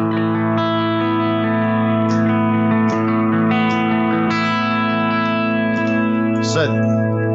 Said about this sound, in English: I've got it set up for the fake whammy as well, the fake harmonic. I use the mod chorus echo a lot in this preset.